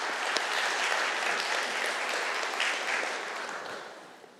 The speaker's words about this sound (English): Let's give all a round of applause.